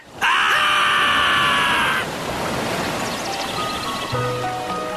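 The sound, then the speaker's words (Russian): A loud, piercing shriek rings out for about two seconds, then a steady rush of churning stream water flooding down a dry streambed carries on, with a few faint squeaks and tones over the flow. “в эту секунду ручей догнал их и”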